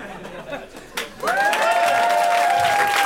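audience applause

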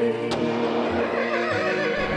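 horse neighing

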